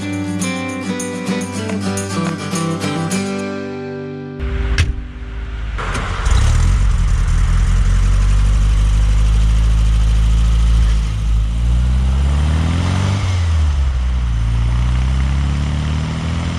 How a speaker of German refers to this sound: Diesen Klang haben sicher viele erkannt. Es ist der VW Käfer.